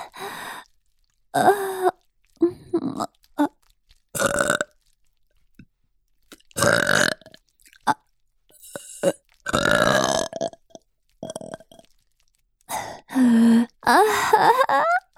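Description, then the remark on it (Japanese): A string of loud milk burps, a dozen or so deep, throaty belches in irregular bursts separated by short pauses, some drawn out with a groaning, voiced tone. “それじゃ、ママのミルクゲップ、ちゃんと召し上がれ。お口を開けて。”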